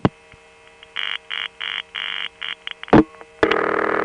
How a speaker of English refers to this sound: So far, this just sounds like a long wireline trunk with lots of meaningless background tones, a typical pattern.